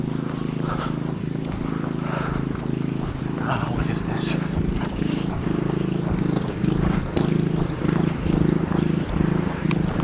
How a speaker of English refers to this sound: Riding lawnmower.